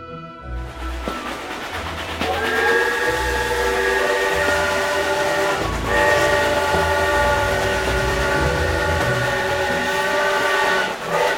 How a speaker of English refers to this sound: The little train rumbled over the tracks. She was a happy little train.